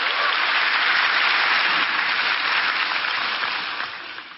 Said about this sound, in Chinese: 非常感谢，给他们掌声